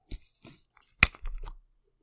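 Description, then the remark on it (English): A store-brand Food Lion plastic water bottle being twisted open: a few soft crinkles, one sharp crack as the seal gives, then a short run of crackling plastic. It is fairly quiet, with no voices. “Let's see what sound this makes when it opens.”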